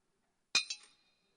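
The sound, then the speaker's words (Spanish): A few small coins clink as they are dropped into the offering in a church, a sharp metallic chink followed by two quicker, softer taps and a thin ringing that fades out in otherwise quiet surroundings. “Es decir, cada vez que alguien echa centavito en la iglesia, todo el mundo se da cuenta. Eso es un sonido horrible.”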